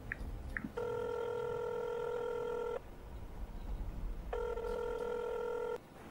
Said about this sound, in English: Abe picked up his phone, put it down, then picked it up again, and he punched in the number.